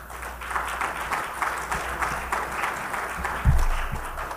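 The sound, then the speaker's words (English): An audience applauding steadily for several seconds, a dense wash of many hands clapping at an even, moderate volume with no voices over it, and a brief thump near the end. “I seek not your applause there.”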